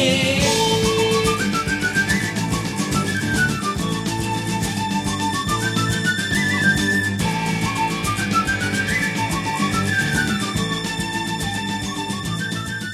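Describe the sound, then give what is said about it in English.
A bright whistled melody rises and falls steadily over loud, full instrumental music with a driving beat, continuing for the whole stretch. “I whistle along on the seventh day.”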